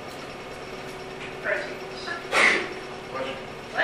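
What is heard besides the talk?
sneeze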